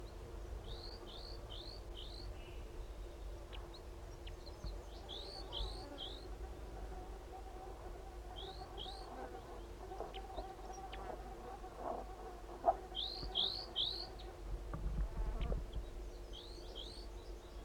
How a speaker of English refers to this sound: There are two crossbills here. I think maybe the other wild male came in along with the new large race male. So both crossbills are here now.